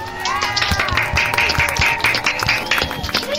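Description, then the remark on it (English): A crowd claps steadily for a few seconds for five contestants in a prediction contest, a dense patter of overlapping hand claps, with faint tonal sounds running underneath. “A round of applause for those five.”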